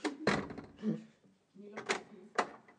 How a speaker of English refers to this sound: Okay, I've got the door.